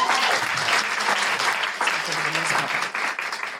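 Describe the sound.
A crowd claps steadily in a dense, sustained burst of applause, with faint voices and a few cheers mixed underneath before it begins to taper.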